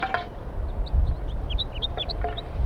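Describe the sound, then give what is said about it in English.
A flock of six wild birds calls from the top of a pine tree in a busy scatter of short, high chirps and peeps, overlapping irregularly above a low, steady rumble, with no one speaking. “Recording the wild birds. Some more have joined the flock up in the pine tree.”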